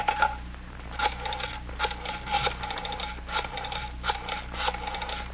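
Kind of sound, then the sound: household object, telephone being dialed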